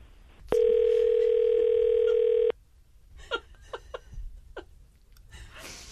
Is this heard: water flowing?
no